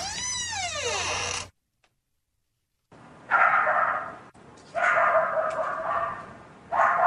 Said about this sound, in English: Is that the door with the dogs behind it?